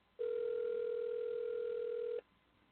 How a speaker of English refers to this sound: Okay, it's ringing right now. I don't know if you can hear. I don't know if you can hear this. I'm calling the debate commissions.